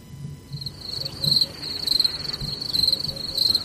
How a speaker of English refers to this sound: You know what? I'll take silence. I'll take the crickets.